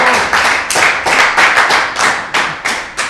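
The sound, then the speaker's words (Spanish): A burst of audience applause for a correct quiz answer, dense overlapping hand claps sustained steadily for about three seconds with a crisp, bright texture and no voices. “Uno sabiendo, es un aplauso.”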